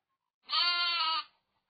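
A single sheep bleats once, a drawn-out, wavering cry lasting just under a second, clear against silence.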